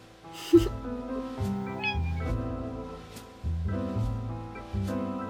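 A female cat meows several times in close succession while being fed, each call drawn out and fairly loud, with short pauses between them and no one talking.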